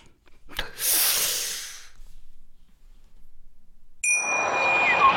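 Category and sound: household object, glasses clinking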